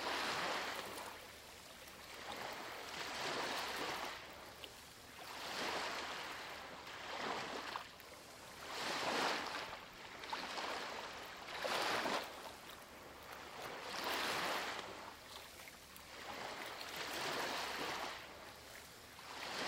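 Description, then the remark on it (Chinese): Ocean waves wash in and recede on a beach in a steady, unhurried rhythm, each soft hissing surge swelling and fading every couple of seconds, continuous with no voices. “想象海浪在自然放松的节奏中，涌来又退去。”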